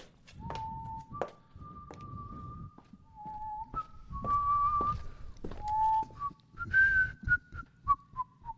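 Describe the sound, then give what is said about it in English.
Someone whistles a wandering tune of sustained, sliding notes while low thumps and knocks like footsteps or objects being handled sound underneath. No one speaks. “For goodness sake, don't whistle that ghastly tune.”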